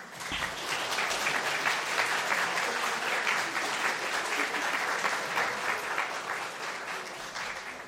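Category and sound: crowd, audience applause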